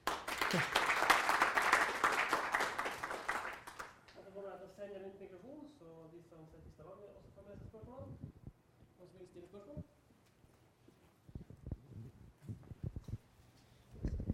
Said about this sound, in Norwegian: Skal vi først ha en liten applaus?